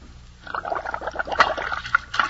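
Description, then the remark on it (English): A short burst of splashing and sloshing water, fairly loud, with quick irregular splashes lasting a couple of seconds and no one speaking, used as a sound effect in an advertisement for Bird's Eye frozen vegetables. “What's that splash?”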